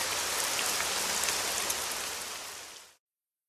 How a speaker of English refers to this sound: Rain makes the earth clean and beautiful.